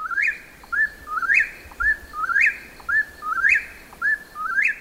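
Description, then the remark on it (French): Birds chirp clearly and repeatedly in the large trees of rue Guérin, a simple residential street where hundreds of birds nest: a steady run of bright, rising whistled calls about twice a second, prominent over a faint background hush, with no voices. “C'est une jolie rue toute simple, très coquette, avec ses maisons de bois, de briques ou encore de stuc, son absence de trottoir et ses grands arbres où nichent des centaines d'oiseaux.”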